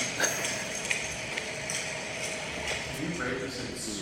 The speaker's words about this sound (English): What does swampy mean? It's just the reverberant tones, especially that I noticed from like the footsteps, just brought like swampy and also like jail-y type. It was like, I couldn't tell if it was like outdoor or indoor,